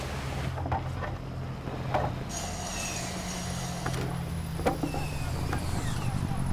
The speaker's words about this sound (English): As his hard-hatted colleague stops work and stares, James frowns, hearing the jeep's approach behind him. Stryker gets out of the jeep.